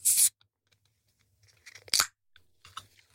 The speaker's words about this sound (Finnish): avaisit sä tölkin. Nämä on heti siis käyttövalmiita, eli pitää viilentää tai kaataa vaikka sitten jäiden sekaan, että juoma pysyy ihanan viileänä.